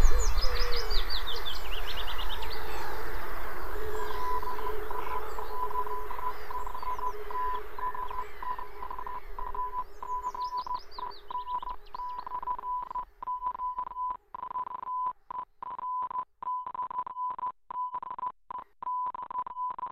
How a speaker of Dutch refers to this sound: Lichtslagen over de kim. Deze deeltitel werd zo even aan u in morse doorgeseind.